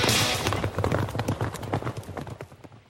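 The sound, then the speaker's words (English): Horse hooves thunder in a rapid, dense gallop, loud, the pounding beats running together in a steady driving rhythm for the whole stretch. “We specialize in thundering hooves, fist pumping, and boosting your bankroll”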